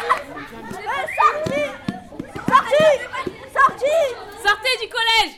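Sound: pupils shouting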